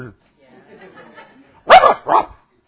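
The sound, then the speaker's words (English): A person's voice mimics two little dogs barking when it got loud: two loud, sharp, yappy "ruff" barks in quick succession, preceded by a faint low murmur. “When it got loud, those little dogs are ruff, ruff, ruff.”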